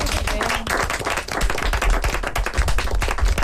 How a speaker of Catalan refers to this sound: Anem a fer un altre aplaudiment, va.